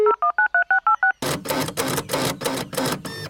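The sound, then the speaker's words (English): Fax machine, called the Geek-O-Matic Telefax, being booted up and dialing: seven quick, evenly spaced dual-tone beeps, then a run of loud, harsh, buzzing bursts pulsing in a steady rhythm. No one speaks. “would you be a deer and boot up the Geek-O-Matic Telefax, please?”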